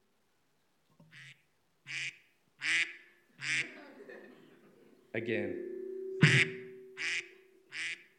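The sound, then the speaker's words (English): A duck alarm, held up to a microphone, quacks in a steady series of about eight loud, nasal bursts, spaced roughly a second apart, with a voice briefly speaking and some background noise underneath. “You will move your body almost involuntarily to stop that wretched duck Here it is. Let's see if I can pick it up on this mic.”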